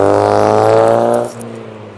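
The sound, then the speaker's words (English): A J-registration Vauxhall Nova drones past in fairly busy evening traffic, the wind having died down, with a steady harmonic engine hum, loud at first and then dropping away after about a second as it passes. No one speaks. “So, in fact, there was a J-Reg Vauxhall Nova that just went past.”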